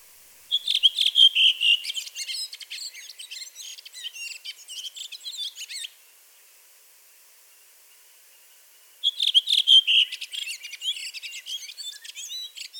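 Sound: redwing song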